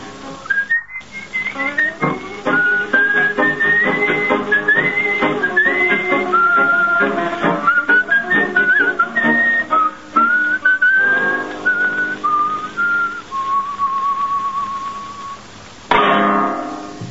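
A man whistles a flowing melody alone for about fifteen seconds on the radio show La Venganza Será Terrible, clear, with sliding notes and a final long held tone, then a brief noisy burst at the end.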